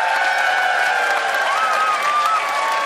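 A Saskatoon audience claps steadily and fairly loudly for a few seconds, voting by applause for a debate contestant who argued for Saskatoon as a vacation destination, a dense wash of applause with a faint whistle or cheer rising through it partway along.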